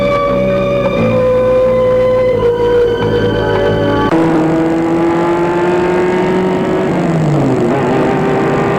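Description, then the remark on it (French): The engine of a white Mercedes car hums steadily, then shifts gear and revs as the car drives off, its pitch climbing and sliding. The motor is loud throughout, with no voices. “Le dimanche matin, il est venu avec sa Mercedes blanche.”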